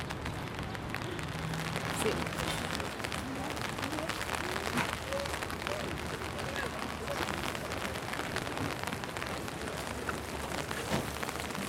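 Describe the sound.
Heavy rain pours steadily onto pavement by the lake in Geneva, a dense continuous hiss and patter, with a brief spoken word at the start.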